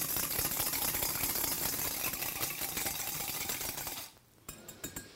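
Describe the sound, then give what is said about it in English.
A whisk clatters rapidly and steadily against a bowl for about four seconds, mixing a liquid that includes drops of eucalyptus oil. It makes a dense rattling scrape, then stops, followed by a few light taps and knocks. “Okay, and then what we're going to do is just, I've got a whisk out so we can just mix it all up here.”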